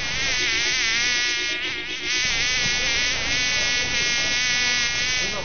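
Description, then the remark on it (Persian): A fly buzzes loudly without a break at a garbage bin, its droning hum wavering slightly in pitch for several seconds, with no voices present. “من بچه گو مگس نواسه خر مگس هستم.”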